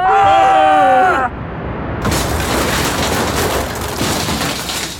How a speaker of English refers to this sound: Hey, Ocean, bring that rubbish back here. What's that watery noise? It's a giant wave of rubbish! Ah!